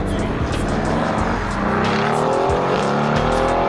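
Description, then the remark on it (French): The engine of a 2022 edition Mercedes AMG sports car roars loudly, its pitch climbing steadily as it accelerates, with a constant rumbling drone throughout and no voices. “Clara a une nouvelle voiture. Elle la présente à sa bande.”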